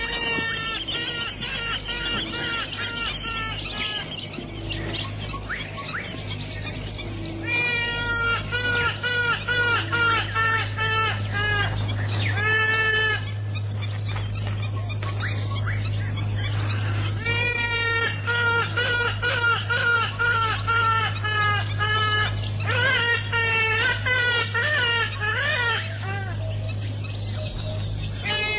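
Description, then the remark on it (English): A trumpeter hornbill perched on a nearby tree calls repeatedly, with bursts of nasal, wailing cries in quick succession over a steady low background hum. The calls sound fairly loud. “Perched on a nearby tree, a trumpeter hornbill watches the scene.”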